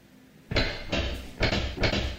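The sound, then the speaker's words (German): A locked door that will not open is rattled hard in its frame, four loud clattering jolts in quick, uneven succession, with no voices. “Leute, die Tür geht nicht auf.”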